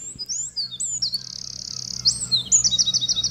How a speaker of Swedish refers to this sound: Ja, det är en gärdsmygg det här. Jajamän.